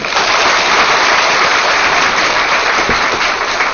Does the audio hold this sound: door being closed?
no